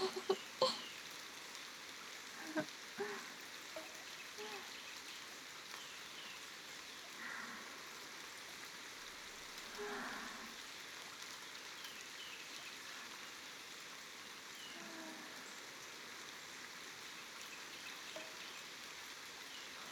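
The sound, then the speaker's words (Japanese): Steady, sudden mountain rain pours down on the roof over a foot bath in a continuous hiss, with a few sharper drips pattering near the start. The rain sounds fairly soft, and nobody speaks. “このまま雨が止むまで足湯に入ってましょう。ここ屋根ありますし、今旅館に戻ると濡れちゃいますから。”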